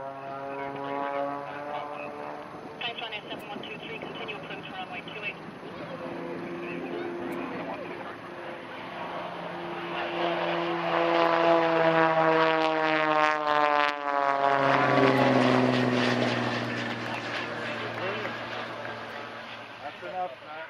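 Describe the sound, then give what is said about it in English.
A propeller aircraft's engine drones steadily, its droning pitch shifting and swelling louder midway as the plane taxis along the runway at Dublin Airport during a send-off, with faint crowd chatter mixed in. “Eddie Goggins facilitated with a little maneuver down the runway.”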